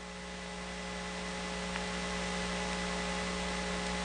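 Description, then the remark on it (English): A steady electrical hum with a thin, sustained whine over a bed of faint static from an open Southern Bell telephone trunk line after a recorded number-change announcement has played once, continuous and unchanging, with no busy signal and no voices. “The recording played only once, and now we're just hearing the hum and the whine of the trunk.”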